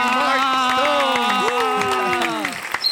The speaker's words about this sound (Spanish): Corillo, fuerte el aplauso para la diosa de la lluvia, Joya PR. ¡Wow!